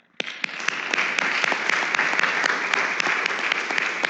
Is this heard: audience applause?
yes